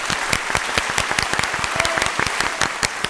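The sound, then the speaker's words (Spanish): A burst of lively applause given to the Neapolitan pizza, many hands clapping in a dense, irregular patter that stays steady and fairly loud throughout, with no voices standing out. “Pues yo creo que el primer aplauso del día se lo va a llevar la pizza italiana.”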